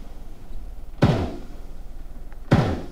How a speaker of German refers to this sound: Und es werden Plattformen für Windkrafträder ins Meer gerammt.